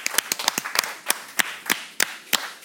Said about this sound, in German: Schön, dass meine Gäste da sind und schön, dass ihr, dass das Publikum auch hier ist. Applaus für euch. Vielen Dank.